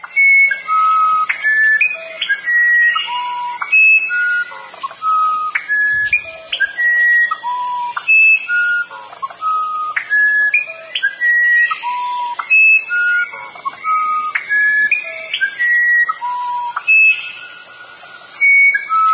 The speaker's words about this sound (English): And here's the musician wren. Listen to how musical this one is.